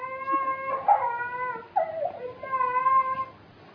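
A person cries in long, high, wavering wails, two or three drawn-out sobbing tones with brief breaks, sounding thin and band-limited as if coming through a telephone line.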